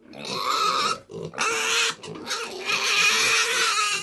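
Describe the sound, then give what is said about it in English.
Pigs grunting loudly in a few long, noisy bursts with brief pauses between them, the harsh animal calls filling the whole stretch with no talking. The pigs are raised on a farm in the village of San Patong in rural Thailand. “In the rural heartland, far from the capital, Arapen Mong Som raises pigs in the village of San Patong.”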